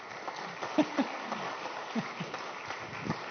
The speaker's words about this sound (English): So let's clap